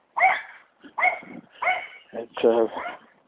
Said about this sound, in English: Oh, we have dogs this morning. What a surprise.